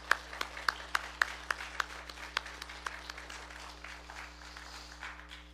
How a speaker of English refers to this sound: So let's give a round of applause for the Lord.